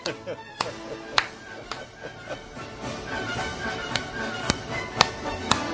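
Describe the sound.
Sharp hand claps land in a steady beat, roughly two per second, standing out above a dense, murmuring background with voices underneath.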